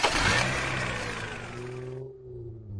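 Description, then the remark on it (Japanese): The engine of a very expensive-looking car roars up with a burst of noise, then holds a steady, rising rev as the car pulls away with passengers aboard and accelerates, fairly loud, with no talking. “とにかく、お二人とも車に乗ってください。”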